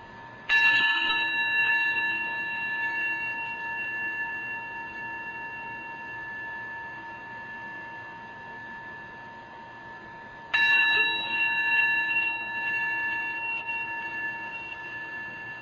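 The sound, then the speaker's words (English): A resonant bell is struck twice, about ten seconds apart, each strike ringing out with a clear sustained tone that slowly fades. There is no talking. “Receiving the sound of the bell, letting the breath just continue on its own.”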